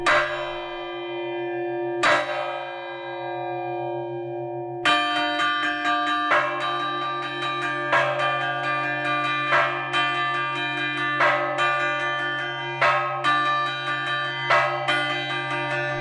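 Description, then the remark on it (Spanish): Church bells ring a traditional peal in the bell tower of Quintanilla, rung by a bell ringer this summer: several bells struck in a steady, lively rhythm with long ringing overtones that overlap and blend, like a conversation between bells. Loud, with no voices. “tocabas este verano también ese repique tradicional, vamos a oírlo un poquito”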